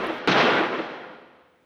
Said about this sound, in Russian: И тут они услышали звуки выстрелов, доносившиеся с луга.